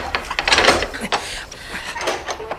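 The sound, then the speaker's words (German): A metal bolt on the door of a hut scrapes and rattles as it is slid open, a gritty sliding noise broken by a few sharp clacks, ending with a short clunk. “Zum Glück nur ein Riegel, den man aufschieben kann.”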